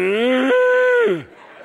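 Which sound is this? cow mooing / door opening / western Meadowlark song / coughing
cow mooing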